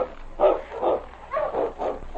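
animal, sled dog barking

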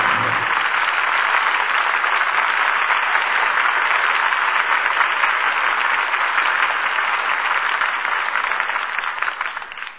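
crowd, studio audience applause

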